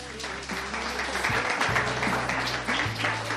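Steady audience applause for a fourth-grade pupil receiving a first prize, a dense wash of many hands clapping that holds for a few seconds at a fairly even level, with a low sustained hum underneath and no speech.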